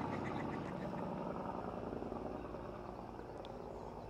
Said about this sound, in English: Let the truck go by.